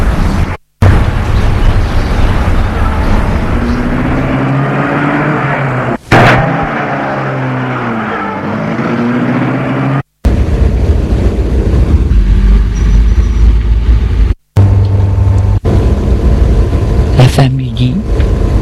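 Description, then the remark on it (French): A chauffeur restarts a car and drives off; the engine roars and revs loudly, its pitch climbing and falling as it pulls away, with heavy rumbling noise throughout and a few abrupt cuts in the sound. “Le chauffeur habillé en chauffeur s'est remis à sa place et remet la voiture en route.”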